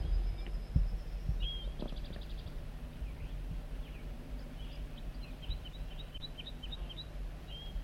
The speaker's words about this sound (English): And he escaped or whatever and flew back to the singing wild banded male.